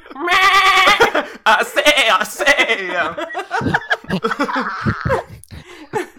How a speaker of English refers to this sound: I believe its name is Bloodhorn. What? And it Bloodhorn Leghorn. Oh, damn it, now I have to come up with a voice for this goat.